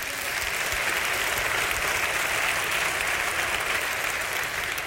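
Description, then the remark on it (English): A church audience applauds steadily for several seconds, a dense, even wash of many hands clapping together, sustained at full loudness from start to finish with no voices standing out. “You go ahead and clap.”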